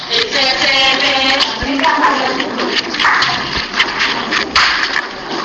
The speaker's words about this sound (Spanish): Está dando palmas, estáis dando vueltas alrededor de vosotras. Parece un juego, ¿no? Más que una danza, ¿no? Parece un juego entre niños, ¿no? Dando palmadas, ¿no?